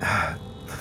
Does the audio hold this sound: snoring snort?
yes